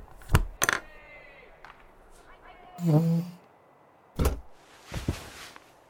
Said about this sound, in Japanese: 日誌とペン、ここ置くね。